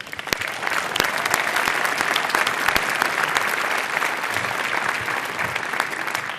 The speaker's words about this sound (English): Please give her a welcome applause.